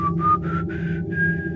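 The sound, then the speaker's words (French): A person whistles a short sequence of simple, steady notes, each one slightly higher than the last, with a steady low hum underneath. “je fais souvent ça dans les reportages, les siffles.”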